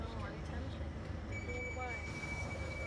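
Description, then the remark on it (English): An underground train roars along the rails at Southwark, a loud, continuous low rumble, with a thin high-pitched squeal of the wheels rising over it partway through. “This station is Southwark. Change here for National Rail Services from Waterloo East.”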